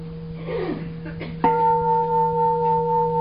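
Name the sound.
bell being struck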